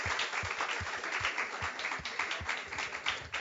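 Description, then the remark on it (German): An audience at a church service applauds steadily for several seconds for first-time visitors, a dense crackle of many hands, with a regular low thump pulsing underneath like a beat. No one speaks. “Lasst uns einfach einen Applaus geben für die, die zum ersten Mal da sind.”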